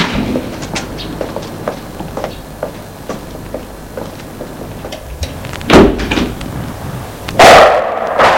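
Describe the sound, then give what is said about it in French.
An old wooden door painted brown is worked open and shut: a run of light clicks and knocks, then two louder thuds as it swings and closes, with no one speaking. “Il l'a fait entrer par une vieille porte en bois peinte en marron.”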